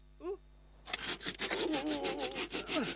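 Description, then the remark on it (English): A short rising squeak, then a sword sawing through a unicorn's horn in quick, rhythmic back-and-forth strokes, steady and fairly loud, rasping for about two seconds. “And he cut the horn off gently, to the unicorn's delight.”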